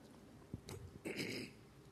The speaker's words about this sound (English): But I'm going to take one sip of water.